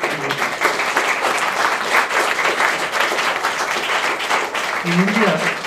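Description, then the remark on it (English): Sustained audience applause at an event in India, a dense, steady wash of many hands clapping for several seconds at an even, fairly loud level, with a faint murmur of voices rising near the end. “Please give him a big hand.”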